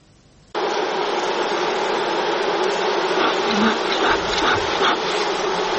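After a brief quiet moment, a dense, loud drone of wild honey bees kicks in abruptly and keeps buzzing steadily, like a whole swarm humming at once, during traditional wild honey harvesting in the forests of the Republic of Bashkortostan, Russia.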